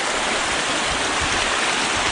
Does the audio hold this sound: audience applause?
no